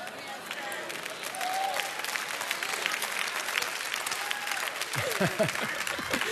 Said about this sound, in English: There's not any young parents clapping right now.